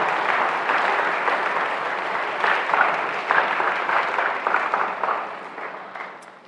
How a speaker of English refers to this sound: My friends, I want to have a round of applause for our ones who just received First Communion.